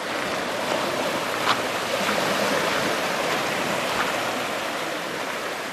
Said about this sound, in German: Es ist herbstlich geworden in diesen Tagen in Südengland. Doch das Meer am Kiesstrand von Hythe liegt spiegelglatt da.